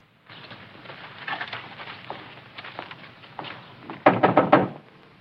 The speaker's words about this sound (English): ties his horse up, then knocks on the door.